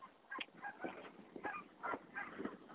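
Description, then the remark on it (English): Several geese honk repeatedly outdoors during goose season, their calls overlapping in uneven bursts, with no voices present. “When we first moved out here, the sound of the geese was just, it was something I couldn't ever get enough of.”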